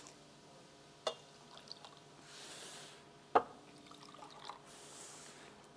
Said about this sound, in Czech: A do každé z těch sklenic já naliju vodu, nebo do každé vlastně ne, do každé liché.